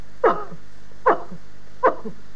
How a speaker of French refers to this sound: Baissez la tête. Respirez. Toussez.